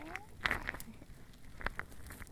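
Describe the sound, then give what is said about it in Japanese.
A fireplace fire crackling softly, with a handful of irregular quiet pops and snaps over a low, steady background hiss. No voices. “暖炉の音とアイシングの音、癒されますよね。”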